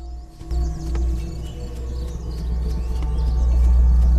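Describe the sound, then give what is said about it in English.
A red-breasted sapsucker hammers its beak against a tree in a forest, drilling holes to release the sweet sap inside, in a steady series of sharp knocks, with faint bird chirps and a low rumble in the background. “A larger bird's busy hammering its beak against a tree. A red-breasted sapsucker is busy drilling holes in the trees to release the sweet syrup running inside.”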